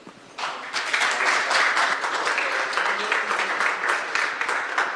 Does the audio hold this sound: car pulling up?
no